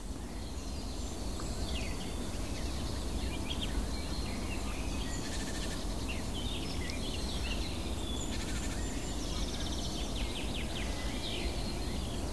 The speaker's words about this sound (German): Hell und klar die Grasmücke wieder.